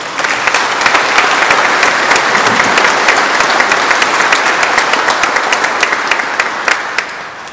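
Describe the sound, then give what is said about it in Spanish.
A church audience at Mass applauds steadily for several seconds, a dense wash of many hands clapping at an even, loud level with crisp individual claps standing out before it tapers slightly at the end. “Un aplauso para ustedes, hermanos.”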